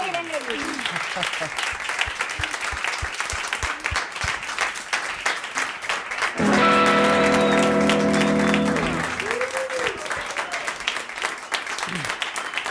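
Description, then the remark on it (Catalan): An audience applauds steadily throughout for Miquel Montoro as he says goodbye, a dense wash of clapping. A sustained musical chord swells in the middle for a few seconds, and voices speak briefly over the clapping. “Un aplaudiment pel Miquel Montoro.”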